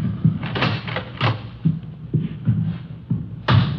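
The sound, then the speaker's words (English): A door in a hotel is opened and shut, with a series of dull knocks and rattling thumps spread over a few seconds and a firmer bump at the end; no one speaks. “I'll get the door.”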